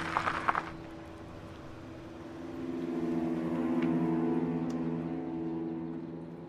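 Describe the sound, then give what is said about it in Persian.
A steady, low car engine drone hums throughout, swelling gradually louder midway as the car arrives at a meeting place, after a brief rustling burst at the start. No one speaks. “یه ماشین میاد محل قرار.”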